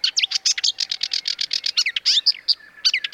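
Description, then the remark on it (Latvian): A marsh warbler sings rapidly and continuously, a dense run of varied chirps, trills and whistled notes tumbling together with no pauses and no voices. “Toties purva ķauķa dziesma ir apbrīnojami daudzveidīga un sarežģīta.”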